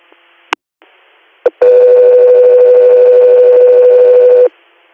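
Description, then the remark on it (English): A couple of sharp radio clicks, then a loud, steady dispatch paging alert tone holds for about three seconds before cutting off abruptly, with faint radio hiss in the background. “go through your standby for tones.”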